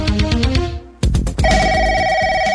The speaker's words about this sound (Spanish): Ya están sonando los teléfonos